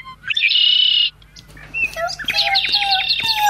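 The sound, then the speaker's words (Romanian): Two baby birds chirp in a nest at the top of a tree: first a steady, shrill, high-pitched call, then a brief pause and a quick run of repeated piping chirps, fairly loud, with no voices. “În vârful copacului se vede un cuib cu doi puișori de pasăre.”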